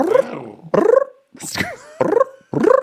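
A person vocally imitates growling: four or five short, rough, throaty bursts in quick succession with brief gaps between them, fairly loud.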